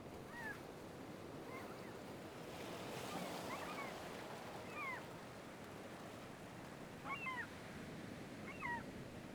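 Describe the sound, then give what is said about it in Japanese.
Ocean waves wash in a steady, broad roar of surf, swelling slightly around the middle, with faint high chirping calls breaking through now and then. No one speaks. “物心つく前から、お母さんのお腹の中にいる時からずっと波音を聞いてて、だからこうやってると すごく落ち着くのかな。”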